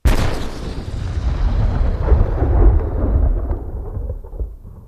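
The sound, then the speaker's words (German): A heavy boom of cannon fire opens loud, then rolls into a long, deep rumbling roar that slowly fades, like a battlefield barrage echoing away. No voices are heard. “Die Kanone hatte ihr Gebrüll begonnen.”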